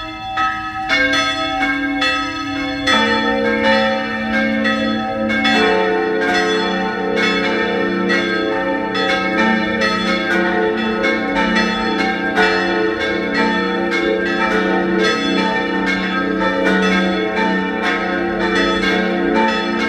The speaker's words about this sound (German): Es ist 12 Uhr. Sie hören die Glocken der Pfarrkirche Papneukirchen in Oberösterreich.